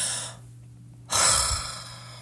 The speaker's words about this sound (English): As my uncle opens the door, he inhales.